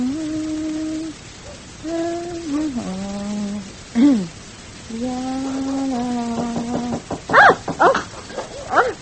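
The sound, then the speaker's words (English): A puppy whimpers in long, wavering whines, fairly loud, breaking into a few sharp, quick yips and barks toward the end. “Pretty little puppy.”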